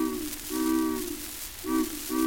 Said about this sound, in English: Oh, here comes the steamboat, hear the whistle blowing.